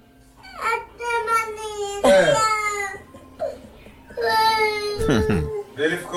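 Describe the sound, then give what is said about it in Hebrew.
A person puts on exaggerated, theatrical crying in several drawn-out wailing bursts with short sobbing breaks, loud, with a few spoken words mixed in. “בלי לבכות, כי תימנים לא בוכים.”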